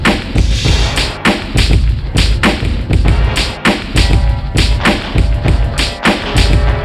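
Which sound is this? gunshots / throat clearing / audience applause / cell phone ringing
gunshots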